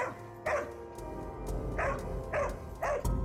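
A large dog barks four times in an uneven rhythm, each bark loud, over a steady low rumbling background with no one talking.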